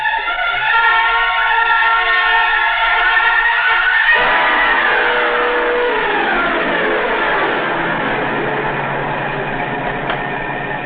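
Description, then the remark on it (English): A car engine drones steadily and loudly, then revs higher as the vehicle speeds up along an empty stretch of road to close in on another car, its pitch sweeping upward and holding a strained, speeding whine. No one speaks. “Well, here's a good stretch of road. Not another car inside. Move up on him now? Yeah, step on it.”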